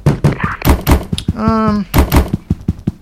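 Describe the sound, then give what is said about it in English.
Several heavy, dull thuds of a kitchen door banging shut, loud, in two pairs with a short steady tonal creak between them. “Door in the kitchen.”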